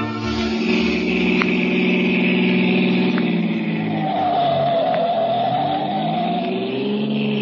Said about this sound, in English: Faster, the Colonel's in a hurry. The car's going as fast as it can